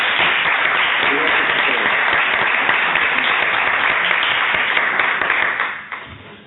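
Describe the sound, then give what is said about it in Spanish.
Loud, sustained applause from an audience, a dense wash of many hands clapping at a steady level, then tapering off quickly in the final second. “Bueno, pues muchas gracias y espero que os llevéis o os llegue el sonido del aplauso.”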